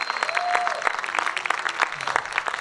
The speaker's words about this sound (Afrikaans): Wie kan met opregtheid vanmôre jou hande klap en vanmôre vir Jahwe al die eer en al die lof gee vir die salwing wat hier is?